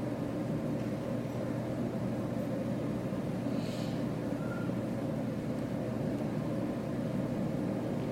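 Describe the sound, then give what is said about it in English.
A steady, unbroken whoosh of air from an air conditioning vent, a soft constant rush with a low hum beneath it and no voices, holding the same level throughout. “I want you to listen to the air conditioning vent making its whisper, its steady sound.”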